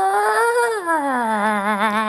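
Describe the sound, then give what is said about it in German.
A voice imitates a cat's eerie nighttime yowl: one drawn-out, wavering wail lasting about two seconds, sliding from a higher pitch down to a lower, trembling moan, loud and steady. “ihr wisst, was Katzen nachts für gruselige Geistergeräusche machen, ne?”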